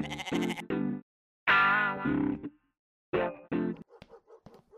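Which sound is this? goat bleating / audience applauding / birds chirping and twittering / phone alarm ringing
goat bleating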